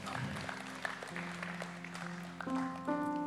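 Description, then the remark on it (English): A church audience claps and cheers for the children as they come in, in a dense, steady patter, with sustained musical tones holding underneath and the whole crowd swelling slightly louder toward the end. “Can we all just give them a bit of a cheer as they come through?”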